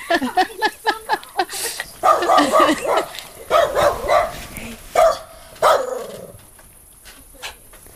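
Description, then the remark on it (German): A dog barks repeatedly and excitedly at a fox, with quick sharp yaps early on giving way to longer, louder bursts of barking that taper off into quieter, scattered yips toward the end. “Dann war der Fuchs auch gerade der, der hier Palaver gemacht hat. Jetzt ist aber gut”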